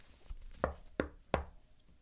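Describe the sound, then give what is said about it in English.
Three sharp knocks on a door in a slightly uneven rhythm, fairly loud, with quiet room tone between them and no voices. “knocked but didn't come in.”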